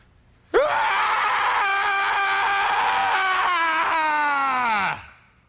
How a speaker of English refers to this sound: Scream therapy very well may work, because he did some screaming today, and I felt better after he screamed.